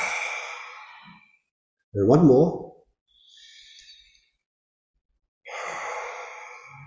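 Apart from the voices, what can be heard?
deep nasal inhale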